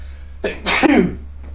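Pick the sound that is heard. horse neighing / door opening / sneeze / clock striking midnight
sneeze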